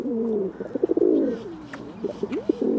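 Pigeons coo in low, throaty bursts, a soft rolling warble that rises and falls in repeated pulses with brief pauses, steady and fairly loud with no one talking.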